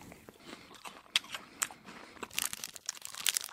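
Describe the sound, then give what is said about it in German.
Irregular crinkling of a cough-drop wrapper, with sharp crackly bursts scattered over a few seconds, growing busier toward the end. No one speaks. “Der soll bloß mit seinem Bonbonpapier aufhören, hier rumzuknistern.”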